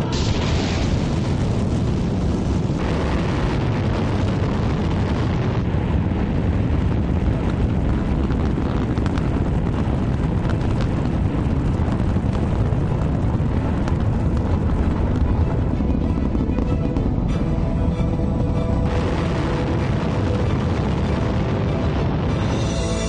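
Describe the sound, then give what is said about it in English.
A Delta IV Heavy rocket launching the uncrewed Orion spacecraft on its first flight: a continuous, loud, rumbling thunder dominated by deep low-end power, with crackling texture and steady intensity throughout, no voices present. “It all begins with launch aboard a Delta IV Heavy rocket.”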